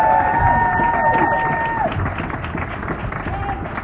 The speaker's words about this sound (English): So let's give them a big round of applause for supporting.